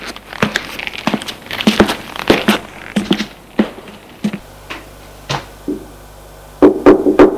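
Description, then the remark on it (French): Knocking on the door of a management secretariat office upstairs: a loose series of sharp raps in irregular bursts, with brief pauses between clusters and no voices. “Arrivés à l'étage, ils vont frapper à la porte du secrétariat à la direction.”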